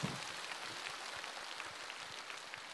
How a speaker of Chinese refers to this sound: 给他个鼓励啊，鼓鼓掌啊。